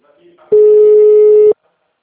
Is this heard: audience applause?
no